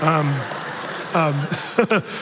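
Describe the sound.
An audience claps in a steady, dense patter of many hands, with a few voices calling out and cheering over the applause.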